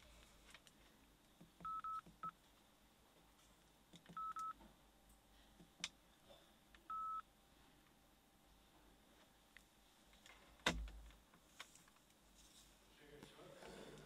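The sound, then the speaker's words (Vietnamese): Several short electronic beeps from a mobile phone keypad, a quick pair followed by two more spaced seconds apart, fairly quiet against a low room hum, with a sharp knock later on. “Tắt điện thoại di động.”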